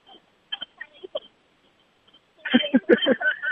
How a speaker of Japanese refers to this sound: 三条大宮の角のとこに三条悟空社っていう八坂神社の、マッシャがあって、そこの前に中御座のおみこしが今、止まってます。太鼓と鐘の音が聞こえてます。どんどこ、ジンジンジンジン。